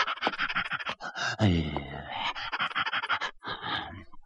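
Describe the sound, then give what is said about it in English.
Heavy, rapid panting of an old hound lying in a road, out of breath from running, with quick breathy bursts running steadily for several seconds and a brief voiced, wheezy gasp partway through. “And he had been walking for just a little while when he saw an old hound lying in the road, gasping and panting.”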